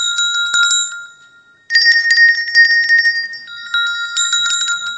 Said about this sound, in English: Because when the cows, they all have bells on them, very, very sweet bells, and it's a symphony, different size bells.